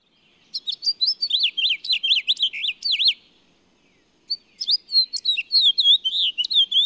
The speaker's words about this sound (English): The house finch's warbling twitter usually ends with a longer, slurred note.